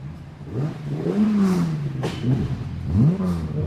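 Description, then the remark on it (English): A rally car on a rally stage at the Festival of Speed revs hard and climbs through the gears up a hill, nearly clipping the hay bales, the pitch rising and dropping with each shift as it roars past, loud and continuous. “There's a car just going by.”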